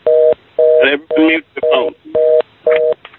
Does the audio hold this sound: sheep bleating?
no